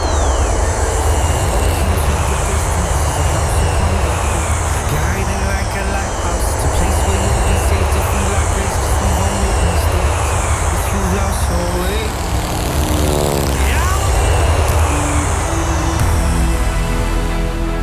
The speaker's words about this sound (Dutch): Nou, de vraag was, in de achtertuin in Lelystad heb ik opnames gemaakt van 3FM... terwijl ze die test deden met die vliegtuigen om de geluidsoverlast te meten.